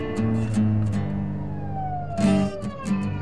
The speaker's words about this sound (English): Soon afterward, two police cars blocked off the highway, sirens blaring.